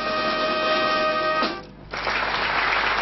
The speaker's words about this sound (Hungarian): Tapsal fogadták Első János Károlyt a meghívottak a parlament felsőházi termében.